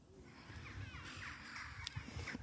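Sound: birds calling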